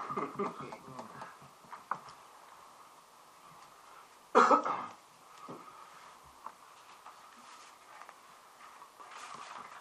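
A single loud cough bursts out midway, followed by a brief rasp of throat clearing, set against faint scattered murmurs and small background noises.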